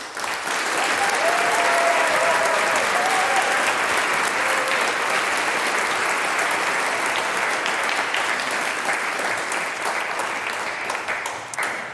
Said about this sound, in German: Der nächste Applaus gehört nochmal dir.